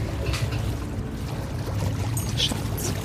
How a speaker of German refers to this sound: Und sie versucht, rückwärts durchs Wasser zurückzuschwimmen.